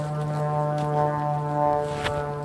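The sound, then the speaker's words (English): A noisy airplane passing overhead drones steadily, a loud low hum layered with buzzing harmonic tones that hold constant pitch for the whole stretch, with no voices over it. “It's a noisy airplane.”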